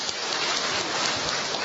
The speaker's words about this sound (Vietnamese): Rồi mời bạn lên. Cho một tràng pháo tay nữa thưa anh chị em.